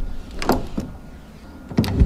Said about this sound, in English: You hear that door open? It's looping too. It's not just. What's the? That's the air. The door dragging.